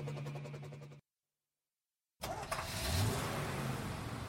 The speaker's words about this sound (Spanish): Este es un autobús escolar. Lleva a los niños a la escuela.